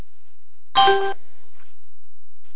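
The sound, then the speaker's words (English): A single short electronic conference call chime rings out once as someone rejoins the call, bright and clear, with a faint fading tail. Silence follows, and no one talks. “Someone just came back in.”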